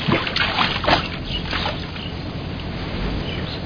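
A high-powered motorboat roars along on the water, its steady engine rumble mixed with rushing, splashing water, fairly loud throughout, with no voices.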